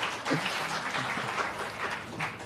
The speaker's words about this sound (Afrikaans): Is hulle hier? Wow, dit verdien 'n ander klap.